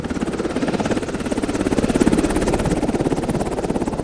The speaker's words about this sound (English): One of the most visible signs of the U.S. presence, Navy Seahawk helicopters ferrying in supplies.